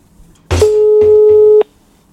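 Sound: telephone call tone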